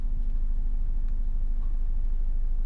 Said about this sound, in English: Come on. Come on, bro. Sorry, I forgot to start the car. It's cold and I didn't start the car. Come on. There we go.